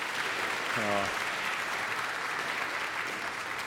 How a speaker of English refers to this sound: A special welcome to all of our fathers who are here today. Let's give our dads a big round of applause, okay?